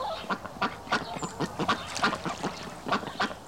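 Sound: ducks quacking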